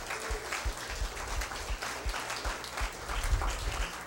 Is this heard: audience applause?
yes